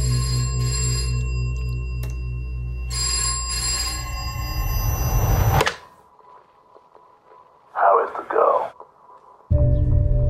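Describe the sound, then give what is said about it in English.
A telephone rings loudly in two long bursts over a low hum, a call heard in a film trailer. A quiet pause and a short muffled sound follow before the droning tone returns. “Let's have a listen to a little section from the trailer, in fact, which gives an idea of that creepiness in the setup, and also that phone call that you were talking about, Donald, that this call from a master.”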